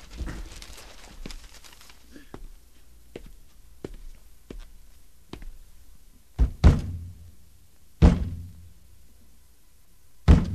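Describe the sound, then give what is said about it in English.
Someone strikes the side of a failing radio's wooden cabinet with a hand: light taps at first, then several heavy thumps spaced a second or two apart, with quiet gaps between them. “Bang it again.”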